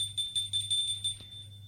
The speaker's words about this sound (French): Après avoir hésité, il sonne. Pas de réponse. Il sonne encore une fois.